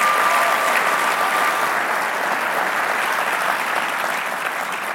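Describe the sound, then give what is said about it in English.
A large audience at ELC 2023 claps for themselves steadily for several seconds, a dense, continuous wash of applause that holds loud throughout and eases only slightly toward the end. “Clap your hands for yourselves if you're a part of ELC 2023.”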